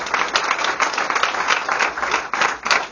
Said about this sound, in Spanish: Yo quiero pedir un fuerte aplauso para todos, porque se han dejado la piel y lo han hecho muy bien.